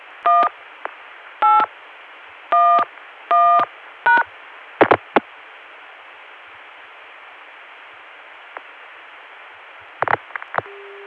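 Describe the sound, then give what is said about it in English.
Touch-tone dialing beeps over a hissy phone line as 1811 is dialed through a Baltimore Centrex to get back to a Chicago dial tone, followed by a few sharp clicks, a long stretch of static, then more clicks and a brief steady tone at the end. “At this point, 8 plus 454 has already been dialed, so we can dial 1811 to get back to that Chicago dial tone again.”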